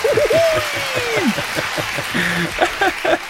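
Loud audience applause: rapid, dense clapping that runs steadily for several seconds, mixed with high whistles and hooting cheers that rise and fall over the claps.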